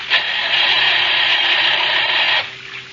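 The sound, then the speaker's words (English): A car engine cranks without catching: a steady, loud grinding whir for a couple of seconds that cuts off abruptly into near silence, with no engine coming to life. No voices. “Oh, gosh, he won't start. Maybe some water got into the engine.”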